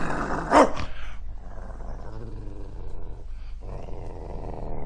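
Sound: dog growling and barking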